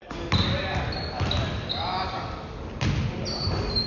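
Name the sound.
basketball bouncing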